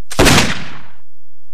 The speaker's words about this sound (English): I heard a shotgun blast.